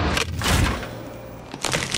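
The chocolate shell of a Magnum Praliné or Magnum Frambuesa ice cream tub cracks in two crisp, crunchy bursts, one early and one near the end, with a quiet pause between and no talking.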